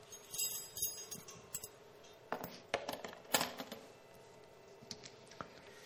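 A bunch of keys jingles and clinks in several short, uneven bursts, with brief quiet gaps between the metallic rattles and no one talking.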